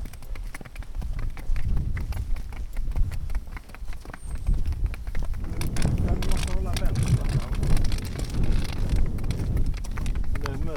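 Wind blows across open fields near Halmstad, Sweden, in a steady low rumble that buffets the microphone, while the hooves of miniature horses clatter quickly over it on the asphalt of a footpath.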